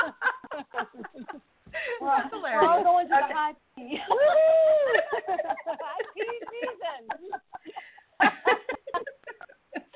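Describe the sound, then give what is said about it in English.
A puppy whimpers and whines in high, wavering cries, with a couple of longer drawn-out whines in the middle, fairly loud, mixed with short yips and people's voices around it. “That puppy. Is it the cat or is it the puppy?”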